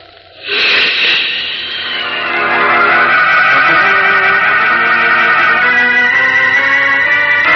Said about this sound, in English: Leaping up from the storm-swept beach, Superman streaks out over the wind-lashed sea into the very teeth of the howling hurricane. Farther out to sea, the gale is stronger.